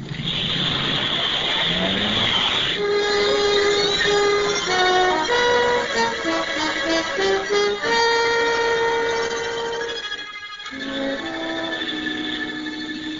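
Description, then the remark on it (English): A speedboat motor roars, its whining pitch climbing and shifting as the throttle changes, with a brief drop near the end before it revs steadily again. No one speaks. “This is the boat.”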